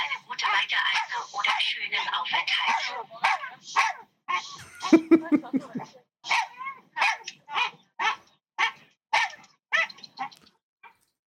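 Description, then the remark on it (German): A dog barks over and over on board an airplane during a flight to Catania, a dense run of yelps at first, then about a dozen sharp, evenly spaced barks, with faint background voices murmuring underneath. “Ey, und er war dann die ganze Zeit am Bellen.”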